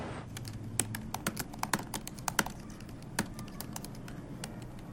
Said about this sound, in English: sits at her desk typing on her laptop.